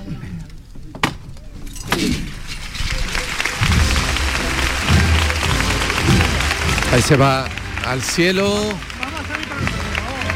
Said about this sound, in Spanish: Las palmas de nuevo, la Virgen de momento clavada en el suelo, ahora sí, avanzando un poquito con el izquierdo.